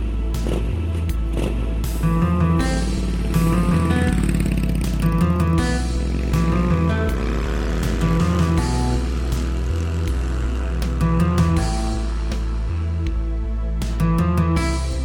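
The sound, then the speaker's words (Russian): A motorcycle engine drones steadily and loudly throughout as it rides toward Yablonovka, its pitch rising and falling, with a throbbing low rumble and no voices. “поблагодарил за участие и, не теряя времени, на мотоцикл и вперед в Яблоновку.”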